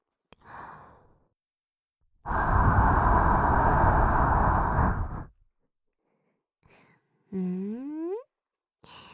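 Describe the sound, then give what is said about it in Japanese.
A long breath blown steadily into the ear for about three seconds, preceded by a faint short exhale and followed by a brief rising voiced sigh. No words are spoken. “息吹きかけられるだけでピクピクしちゃうね。”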